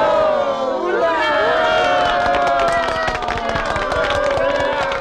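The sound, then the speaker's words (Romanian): A crowd cheers enthusiastically and claps for about five seconds after a toast to the prosperity of Animal Farm, a loud, steady roar of many voices with rapid, scattered hand claps throughout, never dropping away. “Au urmat aclamații entuziaste și aplauze.”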